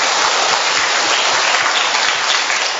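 An audience breaks into loud, sustained applause, a dense wash of many hands clapping steadily throughout with no speech over it, congratulating those who have Saint John the Baptist as their patron saint.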